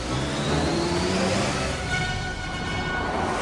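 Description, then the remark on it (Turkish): A black jeep's engine revs loudly and steadily, its pitch rising and shifting as it pulls away, with no voices over the sound. “Ail, Alvin ve arkadaşlarının hapsedildiği kafesi alıp dışarıda kendisini bekleyen siyah cipe bindi.”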